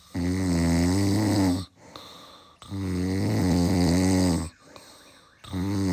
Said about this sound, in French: vous l'avez compris, on va parler des ronflements. Ce n'est pas Jimmy Mohamed, je l'avoue, c'est mon mari.